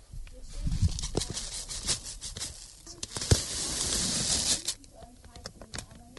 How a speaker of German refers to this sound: macht gerade die Kokosraspeln auf und kippt die dann in die Rührschüssel.